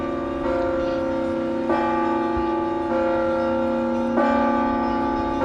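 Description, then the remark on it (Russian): Church bells ring out loudly in Kuzbass, Russia, on July 8 for the Day of the Baptism of Rus, their tones overlapping into a continuous shimmering hum, with a fresh strike sounding roughly every second or so. No voices can be heard. “Звонили колокола в городах и селах, в соборах и малых храмах.”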